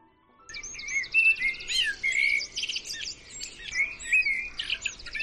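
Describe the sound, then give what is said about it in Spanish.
Several birds chirp and trill continuously outside a window in a lively, overlapping chorus of high, quick calls, with no voices present and a soft outdoor background hum underneath. “Amanece cada día un poco antes, nos levantamos, descorremos las cortinas, abrimos la ventana, y al otro lado de la jaula ya están ellos, fuera, libres, ellos, que también saben lo que es estar dentro, los pájaros.”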